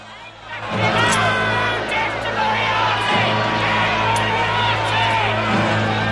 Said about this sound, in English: The professor is the last of these three to step from the carriage and sullenly observes the baying crowd.